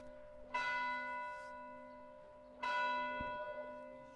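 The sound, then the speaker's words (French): A church bell tolls twice, about two seconds apart, ringing for noon, each deep, resonant strike humming on with a long, shimmering decay. Fairly loud and clear, with no voices. “Les cloches de l'église sonnent les 12 coups de midi.”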